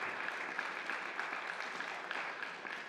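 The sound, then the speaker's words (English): A church audience claps steadily for two of its members going to Kenya as missionaries, dense overlapping applause that holds at an even, moderate level for the whole stretch, with no voices breaking through. “we're going to give a round of applause to our missionaries because we're celebrating them.”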